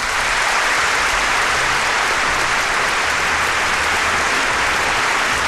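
A crowd applauds steadily throughout, a dense, continuous wash of clapping from many hands, with no one speaking over it.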